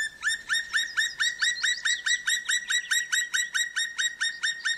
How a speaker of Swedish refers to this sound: De kommer här igen som påminnelse och jämförelse. Gröngöling först. Och spillkråka.